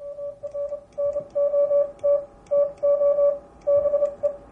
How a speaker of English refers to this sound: To be or not to be, from William Shakespeare. They say Morse can be poetic. Didn't sound too poetic to me.